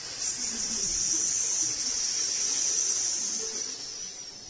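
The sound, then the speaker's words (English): A voice makes a long, steady hissing sound like a snake, sustained and fairly loud for several seconds before easing slightly at the end, with no speech. “I've called snake charmers, and the more they chant their mantras, the louder the snakes hiss.”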